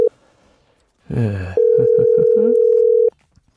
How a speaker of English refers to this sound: Now I don't know if he'll answer, but we'll try. What do you Ooh, is that an international dial tone or what?